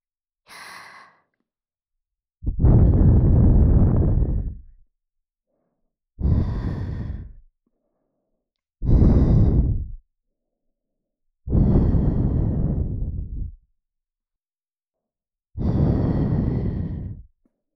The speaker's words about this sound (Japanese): さて、それではもう一度、お耳フーフーしていきます。また、可愛い反応をしてくれると嬉しいですわ。せーの。